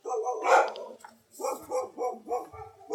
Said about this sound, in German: Ja, das ist unsere Hundeschar, die sich gerade zu Wort meldet. Da ist wahrscheinlich ein neuer Besuch hier auf dem Weg.